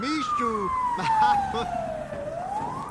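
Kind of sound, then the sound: vehicle, fire truck sirens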